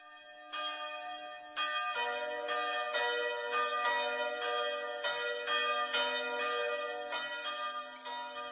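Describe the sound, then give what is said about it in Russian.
A church bell rings alone in a steady rhythm, struck roughly once a second, each clang loud with rich, lingering overtones that blend into a continuous hum. “В таком случае и новый колокол должен быть налажен таким образом, чтобы соблюдать это отклонение.”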